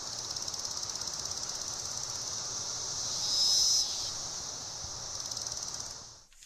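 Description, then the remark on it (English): A dense chorus of periodical cicadas during their hatch-out in Alabama in the morning fills the air with a steady, high-pitched droning buzz that swells briefly midway, then cuts off abruptly at the end. No voices are heard. “Listen, it's the hatch out of the periodic cicadas.”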